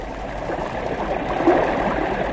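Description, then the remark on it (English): Floodwater of overflowing creeks and the rising Ohio River rushes past in a steady, dense wash, with churning gurgles swirling through the constant roar and no voices present. “Creeks leave their banks to lap eagerly at foothill hen coops and barns, and then swirl on toward the rising Ohio.”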